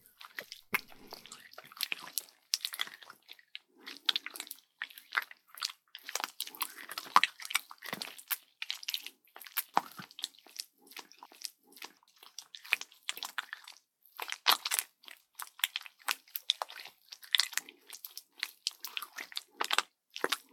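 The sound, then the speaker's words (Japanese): Wet squishing and sticky smacking noises from wet genitals rubbed directly against an ear microphone as the hips move, continuous in an irregular rhythm, fairly quiet overall with no voices. “そして私が少し腰を動かすたびに、いやらしい水音が。”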